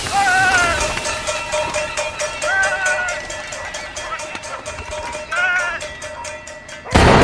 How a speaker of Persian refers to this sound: یه نفر با یه قاشق روی ظرف فلزی میزنه و پرنده ها رو فراری میده.